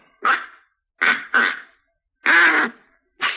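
A duck call is blown, giving five loud, raspy quacking honks in an uneven rhythm, two in quick succession, with short silent gaps and no talking.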